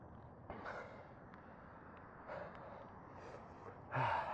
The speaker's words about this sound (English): Okay, first, what you want to do, as you can tell, I'm an expert in breathing. You can hear me breathing very clearly.